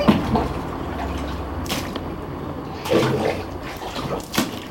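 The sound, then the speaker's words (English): Children splash water in a bathtub, with a few sharper splashes breaking through a steady wet churning, no voices. “Guys, can you throw the water into the containers?”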